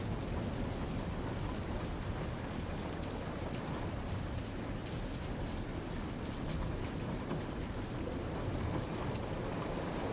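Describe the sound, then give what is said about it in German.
Steady rain pours down over a promenade in the early morning without a break, a dense, even hiss with a soft low rumble underneath, filling the whole scene at constant loudness. No voices are heard. “Ein paar Frühaufsteher gehen gemächlich unter ihren Regenschirmen spazieren, genießen die Stille und die frische, kühle Luft.”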